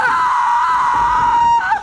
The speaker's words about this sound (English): Picking it up, Anna plunges it into La Llorona's chest. Anna screams.